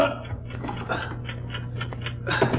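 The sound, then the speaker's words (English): A steady, evenly spaced mechanical ticking, like a time bomb's clockwork, comes from inside a traveling bag, moderately loud over a low constant hum, with some faint murmuring voices around it. “Yes, the ticking's coming from inside the bag.”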